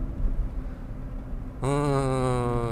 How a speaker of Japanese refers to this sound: 今7月のですね、娘たちとの面会交流を終えて自宅に帰っている途中の車内で録音しております。